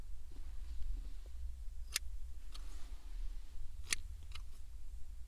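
Scissors snip several times at uneven intervals as hair is being trimmed, each cut a crisp metallic click over a steady low background hum, with no talking.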